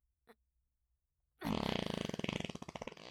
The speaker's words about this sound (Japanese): ほら、君の大好きなおならだよ。